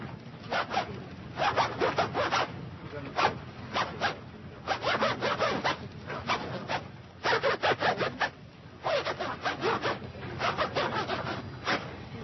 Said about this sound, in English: I play the zipper.